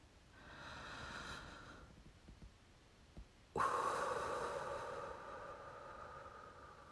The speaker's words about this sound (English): Take deep breaths for me. Here, take a deep breath with me. Ready?